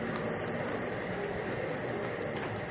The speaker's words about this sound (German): Das ist doch ein Zug, ist ein Schakran.